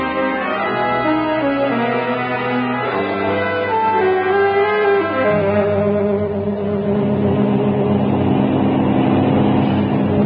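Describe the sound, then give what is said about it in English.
Aeroplane engines start up after the call of "Contact!" with a loud, droning hum that rises in pitch, then settle into a steady, rough roar that runs continuously without any voices. “Plane running very smoothly. Engines in perfect condition.”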